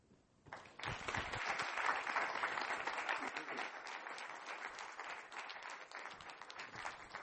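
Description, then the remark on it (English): A crowd applauds the evening's speakers after a brief quiet moment, the dense crackle of many hands clapping swelling quickly and holding steady, fairly loud, until the end, with no speech. “Hey, let's give another round of applause to all of our speakers.”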